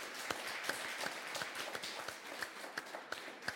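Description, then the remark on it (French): An audience applauds steadily after a film about the Rennes metropolis. A dense wash of many hands clapping, with a few sharper claps standing out at a fairly regular pace, moderately quiet and heard without any talking. “Et voilà, bravo. On peut applaudir.”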